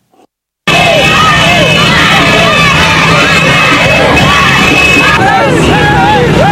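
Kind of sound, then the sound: crowd, celebrating crowd cheering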